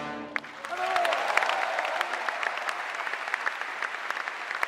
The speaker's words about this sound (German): Das Gesangsensemble gibt nochmal alles, das Orchester überwältigt mit einem Schlussspurt und dann darf er einfach nicht fehlen, der Applaus.